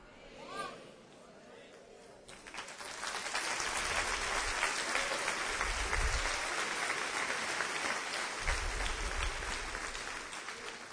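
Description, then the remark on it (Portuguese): An audience applauds God, a sustained, dense wash of many hands clapping that swells after a brief quieter start and stays loud, with low rumbling underneath and a few scattered voices. “quando você aplaudir a Deus, por favor, aplauda o Senhor e celebre o seu nome.”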